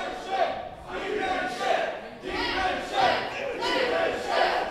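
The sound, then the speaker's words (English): A large crowd at a wrestling match chants 'demon shit' in loud, rhythmic bursts, roughly one surge per second, egging on a wrestler, their massed voices echoing with no individual speech standing out. “Crowd's now egging on the Dakota.”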